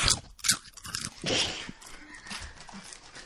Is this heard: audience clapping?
no